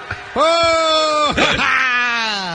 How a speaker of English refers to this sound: Oh, whoa. Now, people are already booing. Right. He said he's a comedian, they start booing.